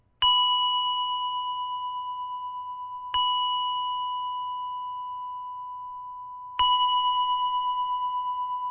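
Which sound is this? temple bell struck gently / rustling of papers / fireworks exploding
temple bell struck gently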